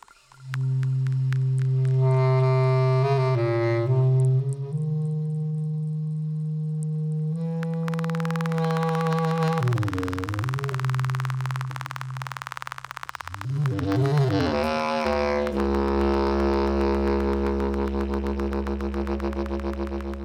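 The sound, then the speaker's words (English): Synthetic electronic tones imitating a mosquito's whine: sustained buzzy harmonic drones that hold steady, then warble and swoop in pitch, loud and continuous with no voices. “it's all made out of artificial sounds that are like what the mosquito is doing.”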